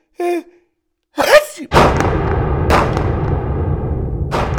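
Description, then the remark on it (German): Three heavy booming pistol shots ring out one after another over a steady low rumble, each burst sharp at the start and trailing off, growing quieter each time, after a brief vocal sound, a sneeze, at the beginning. “Es donnerte einmal, zweimal, dreimal und immer leiser werdend.”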